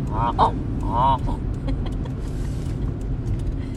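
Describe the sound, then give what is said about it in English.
A few geese at Dead Creek Wildlife Management area honk in short, nasal calls early on, a couple clear honks close together, over a steady low rumble of road or engine noise that continues throughout. “Look at them out there. See them? Yep. Let's go up there. Oh, look, there's geese.”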